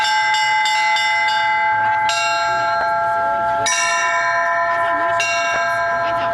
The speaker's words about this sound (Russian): Радостный трезвон под руководством звонаря Спасского собора сегодня исполняют дети. Мастер-класс по колокольному звону уже стал традицией праздника.